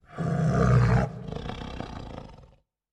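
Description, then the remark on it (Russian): A big predatory cat arches its back and lets out a deep, throaty low growl: a loud, strong burst for about a second, then a rougher, rumbling tail that fades out. No voices accompany it. “Она выгнула спину и издала низкое рычание.”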